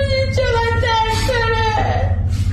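A sick child with SMA moans on a hospital bed in long, drawn-out whimpering cries, fairly loud, the voice rising and falling continuously over a steady low electrical hum.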